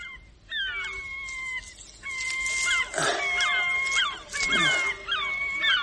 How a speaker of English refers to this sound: Listen to that gull. Crying for its mum, perhaps. And the sea, making the pebbles shiver.